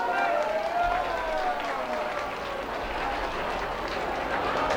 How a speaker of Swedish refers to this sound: Jag föreslår att alla barnvakter som ser till att ni har kunnat komma hit nu får en välförtjänt applåd.